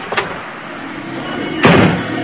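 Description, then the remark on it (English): The unlocked front door of a house opens: a faint click or latch sound, then a louder burst as it swings, followed by a steady background hiss. No one speaks. “They never locked their door.”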